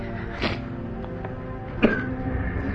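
A man coughs close by, two rough, harsh bursts about a second and a half apart, over a steady low background hum.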